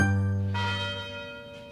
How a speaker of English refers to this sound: The University Tower chimes ring in another session of Ask the Professor, the radio show where you match wits with University of Detroit Mercy professors in an unrehearsed session of questions and answers.